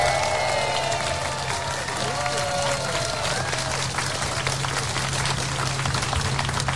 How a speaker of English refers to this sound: Let's give the … another round of applause.